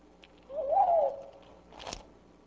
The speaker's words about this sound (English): Okay, so one thing you may have noticed is the fact that hearing a bird song at a lower rate sounds like the call of a different, larger bird.